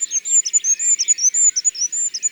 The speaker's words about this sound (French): C'est un roitelet huppé qui a cette petite voix très aiguë. Sipiti, sipiti, sipiti. Avec un final énergique. C'est un chant peu sonore, ce qui est normal pour un si petit oiseau.